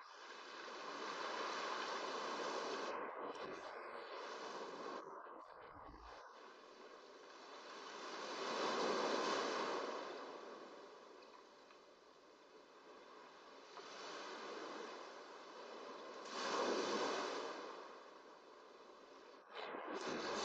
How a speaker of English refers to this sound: It synchronizes with the ebb and flow of the surf.